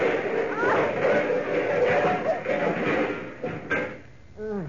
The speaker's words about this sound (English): I think I must have fallen. I think you must have collapsed. No, I fell. My butterfly net caught on the knob of the door.